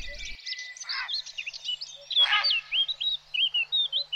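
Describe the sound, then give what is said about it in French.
A dense, overlapping chorus of heron cries from a heron island across an arm of a river: high, squeaky chirps and short whistled calls tumbling over one another without pause, fairly loud, with no one speaking. “Vous entendez ces cris ? Regardez, regardez face à vous. Nous nous approchons de l'île aux hérons.”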